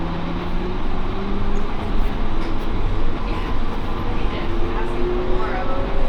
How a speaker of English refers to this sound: Please hold on. This train is departing for all terminals. Our next stop is Terminal 4.